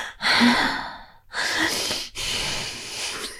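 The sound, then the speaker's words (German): A voice imitates a partner's loud breathing in sleep: three long, noisy, airy breaths with brief pauses between, rough and breathy like heavy snoring inhales and exhales, with no talking. “Ihr wisst, er atmet so laut.”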